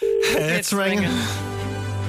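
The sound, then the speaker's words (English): A telephone call rings out over the line, its steady electronic tone sounding fairly loud, with some muffled vocal-like sound mixed in. “It's ringing.”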